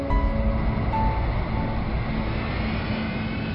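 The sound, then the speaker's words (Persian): A steady, loud roar of a jet airplane engine, with a deep rumble and a thin whine on top, as a plane lands at Damascus airport. No voices. “هنوز اشعه زعفران روی بلندی‌های برج مراقبت فرودگاه دمشق پیدا بود که هواپیما فرود آمد.”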